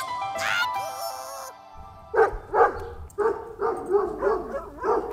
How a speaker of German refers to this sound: heute mit Gebell, denn im Kakadu kommen gleich Hunde zum Einsatz.